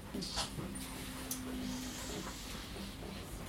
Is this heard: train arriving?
no